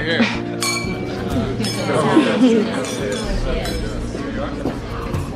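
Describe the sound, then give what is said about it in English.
Several glasses clink together in a toast raised to George Lockwood, bright overlapping chimes ringing out over a steady murmur of crowd chatter and voices. “Everyone, will you please join me in raising your glasses to my good friend, George Lockwood.”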